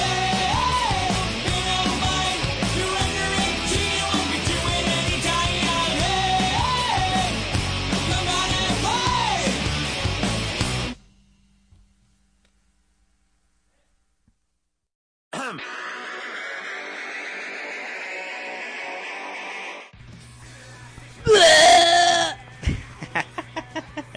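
After a dense stretch of music and a few seconds of silence, a loud, raw scream suddenly erupts close up, strained and bleat-like, then cuts off into a few sharp knocks.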